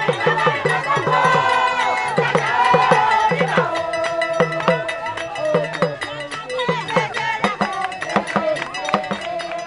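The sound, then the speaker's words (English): A lively festival crowd fills the air with singing voices over steady, sharp percussion hits from a talking drum and a cowbell, the beat driving a busy, celebratory scene of dancing, with shouts and movement throughout. “The beat of a talking drum and a cowbell opens a circle in the crowd, which then quickly fills with dancers and song.”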